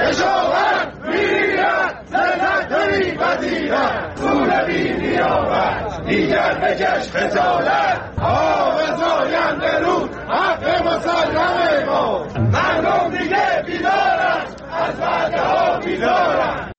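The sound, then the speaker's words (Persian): A large crowd of farmers from east and west Isfahan chants loudly in unison at a Saturday rally in the town of Chadegan, protesting the transfer of their water rights from the Zayandeh River and its drying up; shouted slogans rise and fall rhythmically with brief pauses, steady and dense throughout. “بنابر گزارش‌های منتشر شده در شبکه‌های اجتماعی، کشاورزان شرق و غرب اصفهان در اعتراض به واگذاری حقابه خود از زاینده رود و خشکی این رودخانه روز شنبه در شهر چادگان تجمع کردند.”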